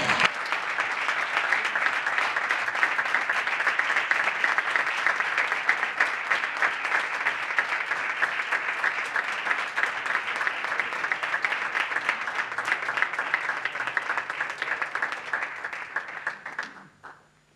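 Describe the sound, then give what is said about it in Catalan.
A crowd applauds steadily for about sixteen seconds at a prize presentation in Balaguer, dense overlapping claps at a constant loud level, then the clapping quickly tapers off and stops. “Si algú vol aplaudir, també pot aplaudir.”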